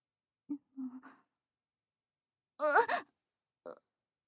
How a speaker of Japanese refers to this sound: お前、泣いているのか。